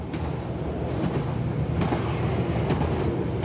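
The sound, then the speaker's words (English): A train rumbles steadily along the tracks past green fields, a continuous loud low roar with faint rhythmic clacking of wheels over rail joints, and no voices. “As the train makes its way, green fields flash by the window.”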